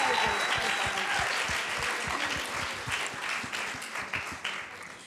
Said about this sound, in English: So why don't we give these lovely ladies a round of applause to say thank you.